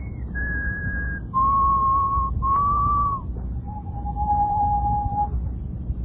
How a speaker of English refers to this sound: Just keep whistling.